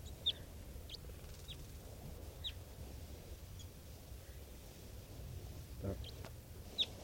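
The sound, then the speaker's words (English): Wild birds give short, high chirps scattered every second or so, with a couple of sharper calls at the start and end, over a steady low rumble and no talking. “And at a point of it, some of the wild birds.”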